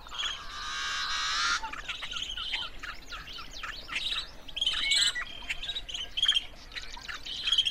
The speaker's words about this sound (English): A yellow-headed blackbird song.